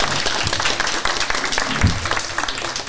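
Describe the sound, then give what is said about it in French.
An audience applauding children of the Paul Langevin school in Quimper: dense, steady clapping fills the whole stretch at a loud, even level, with a brief low thump partway through and no voices. “Alors voilà, on peut les applaudir.”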